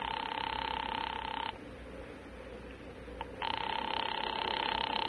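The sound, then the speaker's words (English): A buzzing telephone ring sounds on the line as the operator calls number 136 for Charlie Briscoe. It comes in two long bursts separated by a pause of about two seconds. It is steady, fairly loud and trilling, with a faint hiss in the gap. “I'm ringing. Well, keep it up.”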